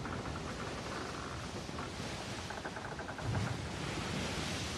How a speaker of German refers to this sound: Und die Wellen krachen gegens Boot, der Mast, der knarzt, diese Geräusche. Was passiert mit dir dann, wenn du das hörst?